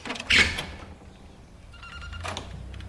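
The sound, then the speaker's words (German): A balcony door with Art Nouveau-decorated glass panes is opened: a sharp latch clack near the start, a quiet pause, then a rattling, slightly creaky swing of the door, with no one talking. “Die Tür zum Balkon hat jugendstilverzierte Glaseinsätze.”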